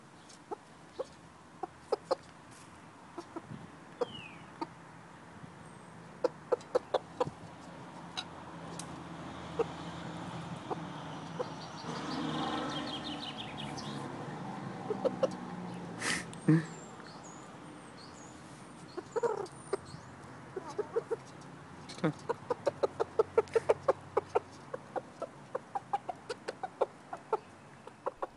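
chickens clucking

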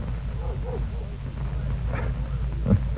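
dog growling

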